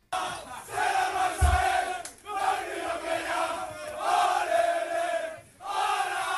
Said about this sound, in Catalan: El Barça li ha donat un bany de realitat al Madrid, que va ser una humiliació al Bernabéu, sí. I aquests eren els crits dels jugadors celebrant-ho al vestuari.